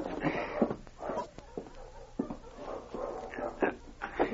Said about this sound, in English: Yeah, I wonder what's wrong with them dogs. Hey, Slim. Yell at those hounds. Shut them up, will you?